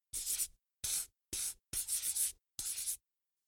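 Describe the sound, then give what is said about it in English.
A pencil scratches across paper in five quick strokes separated by short pauses, like a circle being drawn around a picture of a plane with a purple pencil and then coloured in pink. No one speaks. “Put a circle around it with a purple pencil and color it pink.”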